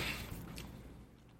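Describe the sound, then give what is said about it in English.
Soft, dry crunching of a man chewing a chunk of freeze-dried ice cream with what look like chocolate chips inside, shaking his head. A couple of crisp bites early on fade into quieter munching. No one speaks. “He's chewing, shaking his head.”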